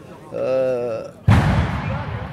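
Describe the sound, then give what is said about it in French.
A person speaks briefly, then a firecracker of unknown origin, set off during a celebration, explodes with a single loud, sudden bang that leaves a rumbling, crackling tail lingering for about a second. “Ok, on me demande une petite phase et là-bas, ça pète. Encore un pétard qui vient d'où, on sait pas, c'est la fête.”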